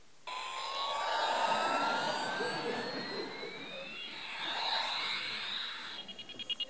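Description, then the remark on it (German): A loud electronic jet-engine roar from a toy airplane, with a rising whine that sweeps upward and holds, steady for several seconds before ending in a few quick pulsing bursts. “Ich habe eines der krassesten Spielzeugflugzeuge der Welt mitgebracht.”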